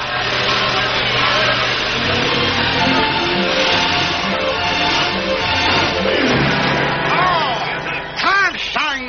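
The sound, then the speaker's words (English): An old gasoline car engine chugs and snorts steadily throughout, a rough, continuous rumble with voices talking over it and some rising, wavering tones near the end. “Noisy, snorting, gasoline monster.”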